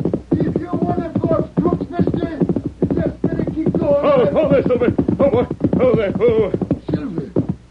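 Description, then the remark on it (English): A horse named Silver gallops with rapid, steady hoofbeats, mixed with loud whinnying and shouting voices, all running continuously for several seconds. “Hurry, Silver, hurry!”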